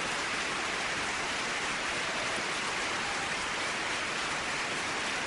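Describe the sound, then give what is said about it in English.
Steady, dense applause holds at an even level for about five seconds, a continuous wash of clapping from a large crowd with no voices rising above it. “I'm letting the full applause run for that.”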